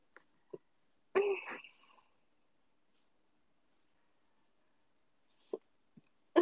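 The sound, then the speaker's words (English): A single throaty burp lasting under a second, surrounded by a few short soft mouth or throat noises and long stretches of quiet, with no talking. “Sorry for burping.”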